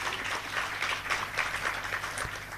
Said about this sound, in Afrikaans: kom ons gee gou geleentheid, kom ons klap eerst lekker hande, daar is hy.